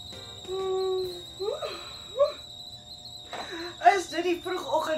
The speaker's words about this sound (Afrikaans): So my ore fluit, hè? Ag, nee, hier is meer die laat oggendketel wat fluit